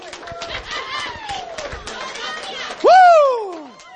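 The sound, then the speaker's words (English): A church audience shouts and claps together for the Lord, a steady roar of voices with rapid scattered hand claps, then one loud whoop rises and falls near the end. “Give the Lord a shout. Give him a hand clap.”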